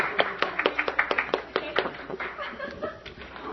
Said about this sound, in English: We should give her a round of applause because she's such a lovely person.